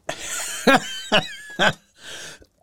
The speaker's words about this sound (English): Sorry for the cough.